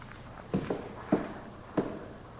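Footsteps of a man walking out: four steady, moderately loud steps with a dull heel thump, evenly spaced about every half second over a faint background hiss.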